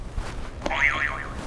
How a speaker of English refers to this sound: Could you press another buzzer for me?